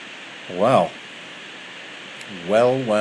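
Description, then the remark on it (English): Heavy rain drums steadily on the roof of a conservatory in Norfolk, a dense, even hiss running throughout, with two short voiced murmurs rising briefly above it. “That is rain. That's rain in the top left-hand corner of Norfolk, on the roof of my conservatory.”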